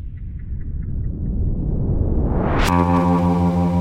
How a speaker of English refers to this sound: also hear a hum